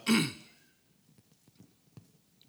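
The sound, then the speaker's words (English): A single harsh cough with a throaty clearing sound bursts out at the start, fairly loud, from a speaker whose voice is going out, then fades into quiet with only faint small rustles. “There was one cough, and it's like, I need Justin.”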